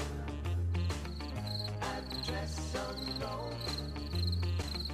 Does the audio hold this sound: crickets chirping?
yes